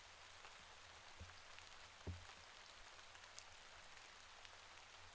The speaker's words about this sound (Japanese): 雨全然止まないね。